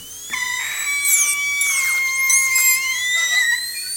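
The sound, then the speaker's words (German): A high-pitched dental drill whines steadily, its pitch swooping up and down as it speeds and slows, fairly loud with no voices present. “Der daneben an einem Schlauch hängende Bohrer wurde mit Hilfe eines Fußpedals angetrieben, ähnlich wie bei einer alten Nähmaschine.”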